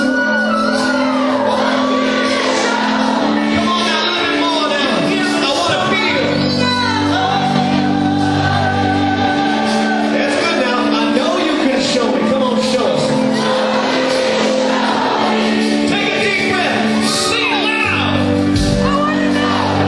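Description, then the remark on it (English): A huge concert crowd, prompted by the singer on stage, sings along together, a loud, dense wash of many voices carrying a melody continuously, with scattered shouts and whoops rising out of the mass. “I think every person in the house was singing. It was that loud.”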